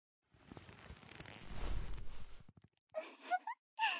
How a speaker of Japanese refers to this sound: 大きなあくび。眠くなってきました。